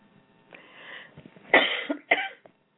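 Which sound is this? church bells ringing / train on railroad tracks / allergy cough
allergy cough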